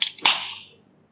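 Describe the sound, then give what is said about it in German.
A beer bottle being opened on a balcony in Chiang Mai in the evening: two quick metallic clicks, then a sharp pop followed by a bright hiss of escaping gas that fades out within about half a second. No one speaks. “Das war das Bierchen.”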